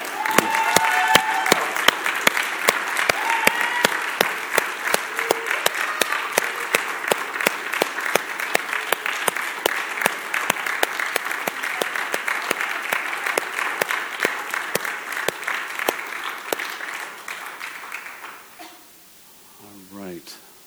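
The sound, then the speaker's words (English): A large group claps steadily as a gesture of celebration for nearly twenty seconds, dense and even, then the applause fades out and a voice begins speaking at the end. “And just as a gesture, can we just clap once again?”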